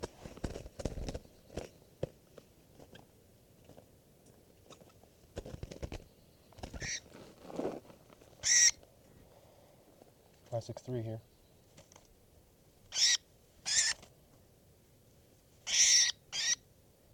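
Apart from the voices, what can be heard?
bird calls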